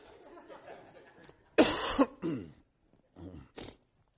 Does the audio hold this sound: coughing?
yes